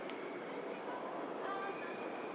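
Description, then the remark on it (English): A muffled, echoing public-address announcement of the slow train drifts across a busy railway platform next to platform 19, the voice blending into a steady wash of crowd bustle and station noise. “They seem to be announcing the slow train.”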